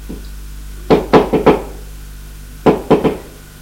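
Knocking on the door of a drawing room (salon) on the first floor: a quick run of four firm raps, a short pause, then three more knocks. Sharp and fairly loud, with no voices.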